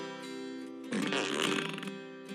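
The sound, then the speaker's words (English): A truck starts up with a loud, buzzy fart-like blat, a steady low drone that swells into a rough, sputtering burst before settling back, heard alone without any talking. “It makes a fart noise when you start it up.”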